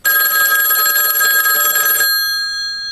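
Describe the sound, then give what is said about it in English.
A loud telephone bell rings in a continuous metallic trill for about two seconds, then cuts off, leaving a brief fading ring-out. No one speaks. “No, it's the phone ringing.”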